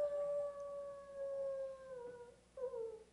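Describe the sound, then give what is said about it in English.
A coyote howls in a long, steady, slightly falling wail, then a second howl rises sharply just before the end, clear and alone with no talking. “Do coyotes eat people?”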